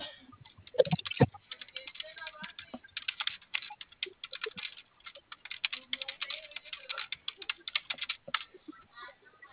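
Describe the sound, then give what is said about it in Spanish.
Rapid, irregular clicking of keys on a computer keyboard, continuous for several seconds, moderately loud with a few heavier keystrokes early on; no talking. “Fíjate si el teclado prende.”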